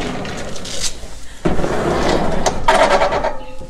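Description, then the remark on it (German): A door scrapes and creaks open or shut over a few seconds, with a sudden rough clatter midway and a grinding squeal near the end, fairly loud. “Achtung, die Tür nochmal.”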